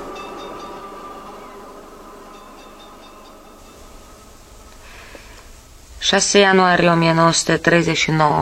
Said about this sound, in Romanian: Uite, vine tramvaiul.